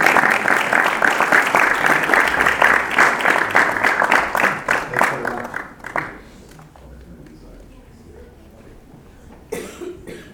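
A crowd claps loudly in dense, steady applause for about six seconds, then it thins out and fades to a few scattered claps and murmurs, with a brief burst near the end.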